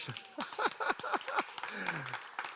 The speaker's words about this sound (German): Ist ein Applaus wert, oder?